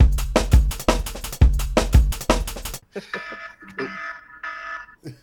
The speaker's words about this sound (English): The fire alarm has gone off again.